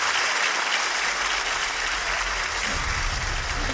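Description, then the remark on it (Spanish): Sustained audience applause fills the whole stretch, a dense, steady wash of many hands clapping, loud and continuous with no talking over it. “merece un fuerte aplauso.”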